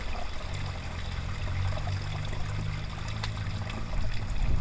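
A woodland stream at Birchcliff Woods, recorded outdoors on a bridge at the top of the woods, runs steadily throughout, a continuous rushing babble with a low rumbling undertone that swells slightly toward the end. No voices are heard.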